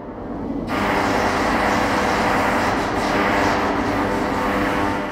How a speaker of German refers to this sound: Der Ton, der plötzlich durch die Halle dringt, hört sich an wie das Geräusch einer Bohrmaschine. Tatsächlich ist es ein sehr schnell schlagender Schmiedehammer, mit dem die Handwerker die noch rot leuchtende Schweißnaht bearbeiten.